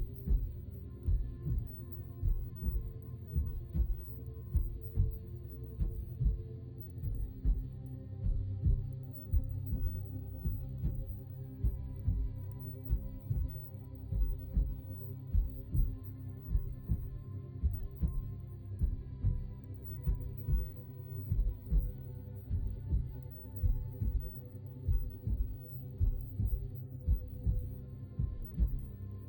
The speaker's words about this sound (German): Spüre deinen Körper. Höre, fühle deinen Herzschlag.